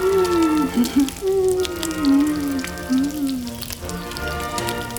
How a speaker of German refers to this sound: Als nun die Essenszeit herbeirückte, holte sie eine Wurst aus der Speisekammer, tat sie in eine Bratpfanne, legte Butter dazu und stellte sie übers Feuer. Die Wurst fing rasch an zu braten und zu brutzeln.